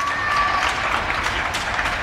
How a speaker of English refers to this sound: And when you hear spontaneous applause coming out of multiple households in praise of health workers, you can't help but kind of get a little bit emotional when you hear it.